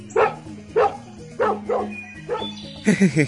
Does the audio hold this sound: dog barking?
yes